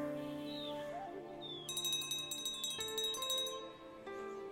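A small hand bell, rung by a teacher to signal the start of meditation, rings with sustained, overlapping tones, then is shaken rapidly in a bright shimmering burst before the ringing settles and lingers. Fairly quiet, no voices.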